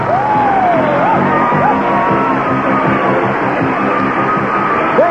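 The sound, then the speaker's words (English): A large studio audience of the game show Press Your Luck, at Television City in Hollywood, screams and cheers loudly and continuously, with individual shrill whoops and yells rising above the dense roar throughout. “Rod, I think they're screaming for Rod Roddy, but I'm here anyways, and I welcome you all to Press Your Luck, television's most competitive game.”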